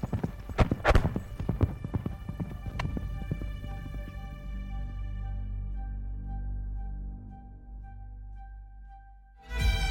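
A quick burst of galloping hooves as Swedish king Gustav II Adolf's cavalry riders charge into the fog pounds for a few seconds, then gives way to a sustained low, humming tone that lingers and fades before a sharp swell at the end.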